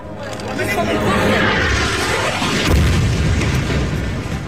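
A loud explosion as the 12-floor Al-Roya commercial building is destroyed in a bombing on September 7th: a deep, heavy boom swells midway through a continuous roaring rumble, with the excited chatter of people mixed into the noise.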